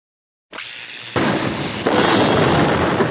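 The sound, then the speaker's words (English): After a brief silence, a loud explosive blast erupts into a sustained, crackling roar that surges louder twice as a warehouse loading dock side door is blown through, with no voices. “A halo of brilliant white fire surrounded the door, then imploded, leaving a smoking hole through which stormtroopers began to run.”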